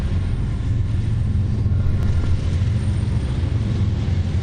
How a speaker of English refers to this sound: When we get up, you'll see the train. There's a train running now.